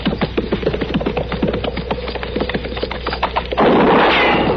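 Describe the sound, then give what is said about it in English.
A rapid scatter of sharp cracks and snaps, then a single loud gunshot bursts out near the end, its rough noisy blast lingering for about a second. No one speaks. “This dune seems like that shot came from back there.”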